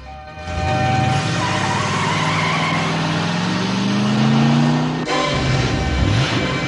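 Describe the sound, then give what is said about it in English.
A car engine roars and climbs in pitch as Kinnicky drives off in his car, tires screeching against the pavement. Loud throughout, with no voices. “Rizzo turns and watches Kinnicky drive off in his car,”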